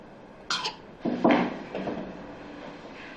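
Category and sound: human body sound, girl coughing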